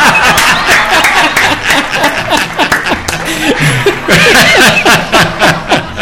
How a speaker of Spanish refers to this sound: Esos aplausos son para ti.